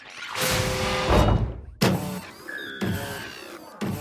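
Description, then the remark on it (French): A spaceship door, the craft standing in front of a large tower, slowly slides open with a long hissing, whirring mechanical sweep and whining tones, followed by several heavy clunks and short electronic hums, loud, with no talking. “À peine est-il arrivé devant le vaisseau que la porte commence à s'ouvrir lentement.”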